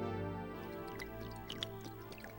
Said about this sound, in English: At home, I went to the kitchen, took out a beer, and started pouring it down the drain.